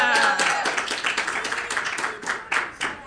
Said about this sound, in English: How many of you agree with her pick? Let's have a round of applause. Cheer if you agree with Wonder Woman.